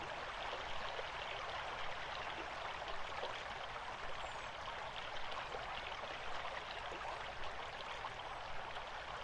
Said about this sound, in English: Now move your attention to the vertebrae of your back just behind your heart as you are cradled and caressed by the water of the stream and supported by these smooth, flat stones.